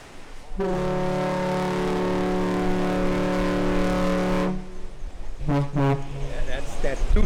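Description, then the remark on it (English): A car ferry, running since the 1950s and beginning its round trip across the lake between Manitowoc and Ludington, Michigan, blows its horn in salute, heard from a lighthouse deck: one long, deep, loud blast lasting about four seconds, then fades, followed by two short toots and ambient noise. “That's a salute to us.”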